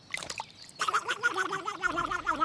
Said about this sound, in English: And that'll be the duck.